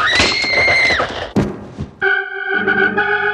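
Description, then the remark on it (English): A girl falls screaming into a big, dark hole after the ground cracks beneath her feet: a sustained high-pitched scream is followed by a heavy thud, then a second drawn-out, strained vocal cry with a rich, buzzy tone. “Patty fell screaming into a big, dark hole.”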